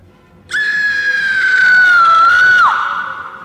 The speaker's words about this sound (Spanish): ¡A ese grito! Sí, sí, que lo he oído.